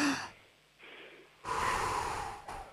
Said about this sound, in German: Wir atmen nochmal gemeinsam durch, einatmen und ausatmen.